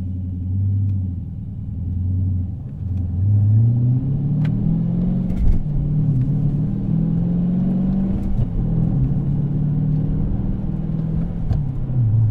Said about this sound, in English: All right, that's fourth gear at about 35 miles an hour. A little bit of sand and grit hitting the bottom of the car.